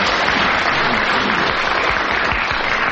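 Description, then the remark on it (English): Steady audience applause fills the whole stretch, a dense, even patter of many hands clapping at moderate loudness with no pauses and no voices over it. “I really think you get some applause for that.”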